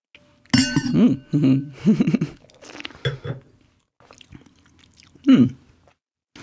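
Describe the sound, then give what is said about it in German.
Red wine is sipped from glasses in a tasting: a glass clinks, then slurping and swishing mouth sounds mix with low, appreciative hums and murmurs across a few seconds. “Jetzt probieren wir mal kurz. Ich muss ihn selbst probieren.”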